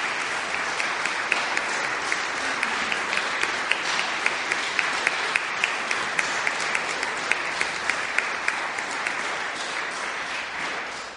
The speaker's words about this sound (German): Und da kommen die Blumensträuße, mit denen wir euch jetzt in einem herzlichen Beifall gratulieren.